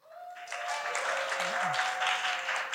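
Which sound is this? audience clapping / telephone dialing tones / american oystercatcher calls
audience clapping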